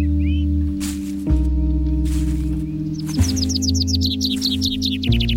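A common blackbird sings a quick run of bright, repeated chirps partway through, heard over a loud, steady low musical drone that shifts pitch a few times.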